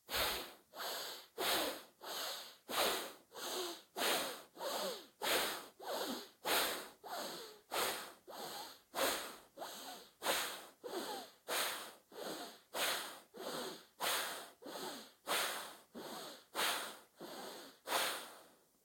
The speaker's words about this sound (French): On ferme à gauche, on ouvre à droite. Respiration active à droite.